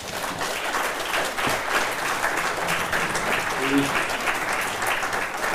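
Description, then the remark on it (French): Steady audience applause after a speaker finishes presenting a report, many hands clapping in a dense, even wash for several seconds at a constant level, with a faint voice briefly audible beneath it. “On n'a pas besoin que vous le fassiez, on applaudit tout seul.”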